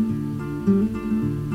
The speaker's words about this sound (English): That is exactly the same guitar.